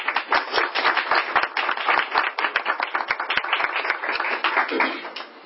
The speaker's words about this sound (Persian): پیش جان میسپاریم به سخن استاد گرانقدر. با تشویق شما.